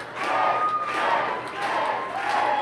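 A large concert crowd chants a name in unison, loud voices swelling and falling in a steady repeating rhythm about once a second, with a thin electronic tone humming underneath.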